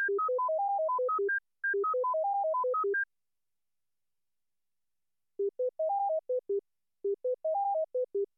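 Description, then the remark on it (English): After a wider-ranging run of pure electronic beeps and a pause of a couple of seconds, a standard containing only the lower-frequency tones of the full crossing pattern steps up and back down in a short, quick pattern, twice. “The second contains only the lower tones.”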